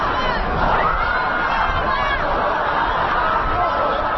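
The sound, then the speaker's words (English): A large crowd gathered on the National Mall in Washington, within sight of the Capitol, for the inauguration of Barack Obama, murmurs and chatters continuously, a dense babble of many voices with no single speaker standing out, steady and fairly loud throughout. “You can hear the crowds that have gathered on the National Mall within sight of the Capitol.”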